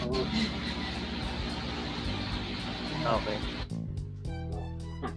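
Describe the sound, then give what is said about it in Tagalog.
A steady whirring drone of an electric fan and air conditioner running, fairly loud and constant, then dropping away near the end as a voice briefly speaks. “Electric fan, aircon.”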